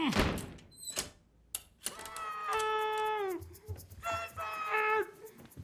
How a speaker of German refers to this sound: Diese Unterhaltung ist beendet. Und zwar, indem ich diese Tür vor deiner Nase zuschlage.